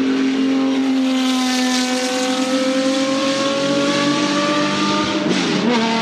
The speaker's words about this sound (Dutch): En die 5,4 liter 12-cilinder motor.